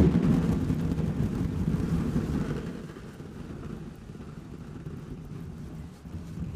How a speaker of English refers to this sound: Sound like thunder? Oh, yeah. Yeah, yeah, absolutely. These are just BBs inside of a party balloon. So a couple of blown up balloons with BBs inside it. We shook them, and then as that kind of... Really sounds like a storm is rolling in.